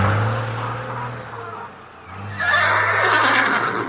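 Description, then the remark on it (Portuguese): A horse, Gonçalo, a big, strong farm horse bought for heavy work, neighs loudly, a long shaky whinny that rises into a bright, quavering burst near the end, with a low steady rumble like an idling engine underneath. “Quando jovem, Gonçalo foi comprado por seu Abílio para ser um cavalo de trabalhos pesados.”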